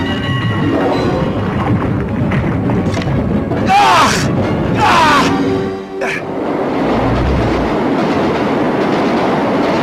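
A metro train rumbles and clatters steadily along the rails, loud throughout, with two brief high metallic screeches partway through before the roar carries on.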